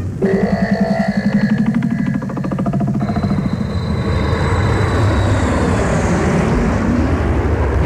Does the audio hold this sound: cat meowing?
no